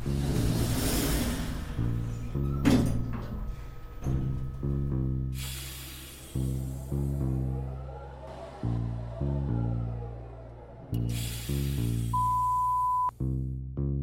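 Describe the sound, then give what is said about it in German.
An elevator door slides shut with pneumatic hissing bursts at the start and near the end, over a steady layered mechanical hum that steps up and down in pitch. “Kein Präsident auf dieser Etage. Türe schließt.”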